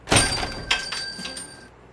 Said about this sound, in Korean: 상당한 고생 끝에 간신히 그 가게를 찾아 커다란 문을 열었을 때 귀에 들려오던 그 방울 소리를 지금도 나는 뚜렷이 기억한다.